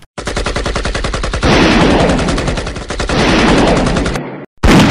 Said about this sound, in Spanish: Estamos atrapados en este búnker. Si salimos, moriremos por todos los disparos soviéticos.